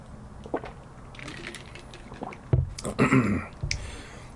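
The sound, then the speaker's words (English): Quiet liquid sounds of someone sipping water, with a few soft slurps and a gulp, followed by a brief exhale; no talking. “Let me have a sip of water in between.”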